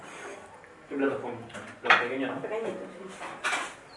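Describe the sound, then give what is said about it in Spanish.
Small plates clatter as they are pulled out and set down, with a sharp clink near the middle and softer knocks around it, while people talk in the background. “¿Qué platos pongo? ¿Los pequeños?”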